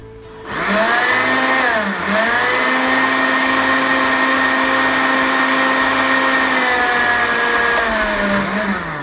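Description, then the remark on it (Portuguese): A blender starts up and runs loud for about eight seconds, grinding a seed mix into flour: a steady motor whine over gritty grinding, its pitch sagging briefly a couple of times as the dry contents shift. “O liquidificador desligado, né? Mistura para poder bater bem e ficar bem farinhento mesmo, tá? Bate de novo.”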